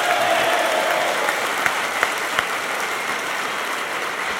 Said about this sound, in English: Round of applause for Chris and Stuart, everyone.